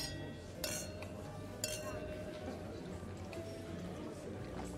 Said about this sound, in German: Dann sollten wir aber jetzt drauf anstoßen. Auf uns. Auf ein Ende der Geheimnisse.